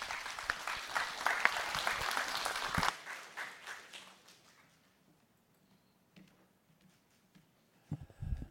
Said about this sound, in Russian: На сцену приглашается Миронов Сергей, руководитель фракции «Справедливая Россия за правду». Аплодисмент, пожалуйста.